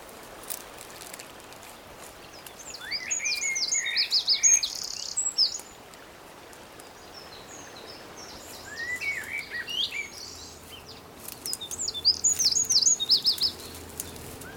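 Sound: birdsong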